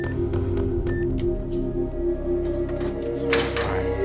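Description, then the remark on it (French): A heavy vault door grinds open after a combination is entered, over a low mechanical hum, with a few metallic clicks early on and a louder scraping sweep near the end, no voices present. “La porte s'ouvrit enfin.”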